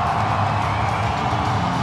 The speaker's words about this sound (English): crowd roaring as Hamonic is going to go to the locker room.